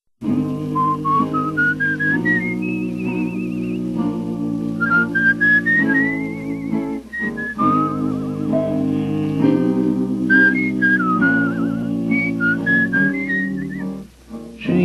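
A clear, sustained whistled melody glides and rises over steady harmonized accompaniment, with vibrato on held notes, continuing through most of the passage before a brief pause near the end.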